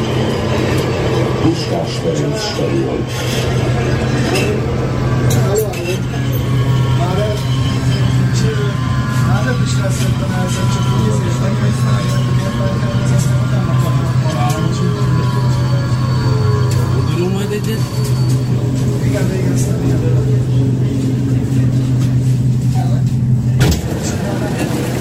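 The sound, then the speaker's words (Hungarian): A steady low rumble and hum fill the inside of a moving metro carriage travelling toward Puskás, with rattling and squealing layered over the drone and voices murmuring faintly in the background, ending abruptly. “Kedves hallgatók, metrózunk, megyünk a Puskásra.”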